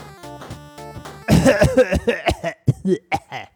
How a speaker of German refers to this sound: Hast du das, wo kommt das Husten jetzt her? Hast du das da dran geschnitten? Das Husten, das, mich haben alle gefragt, warum hustest du jetzt? Das ist, ich habe einmal gehustet.